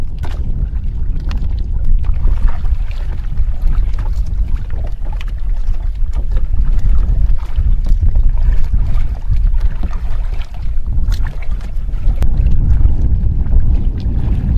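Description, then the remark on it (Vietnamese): Continuous watery splashing of a paddle and waves lapping against the side of a small boat in open floodwater during the flood season, with low rumbling water movement throughout and frequent sharp splashes of the paddle dipping. No voices, steady. “giữa đồng nước mênh mông, nhưng không lúc nào ngớt tiếng mái dầm khua nước, tiếng sóng nước vỗ ong ốc vào mạn xuồng.”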